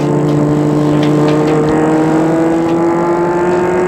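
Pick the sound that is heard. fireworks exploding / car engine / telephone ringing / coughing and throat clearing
car engine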